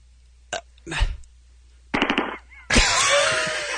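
Several sharp gunshot bursts: two single cracks, a quick rapid-fire cluster, then one loud final blast that rings out with a long, noisy echo. No one speaks.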